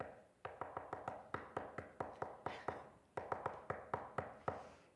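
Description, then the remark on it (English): Rapid, insistent knocking on a door, two long runs of sharp raps with a brief pause between them, fairly loud, with no voices. “He's going to keep on knocking.”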